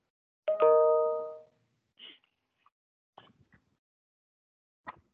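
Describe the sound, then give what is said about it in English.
A single doorbell chime rings out clearly during a board meeting and fades over about a second, followed by a few faint clicks and soft rustling noises in otherwise quiet surroundings. “Despite that doorbell, I didn't hear anything after that.”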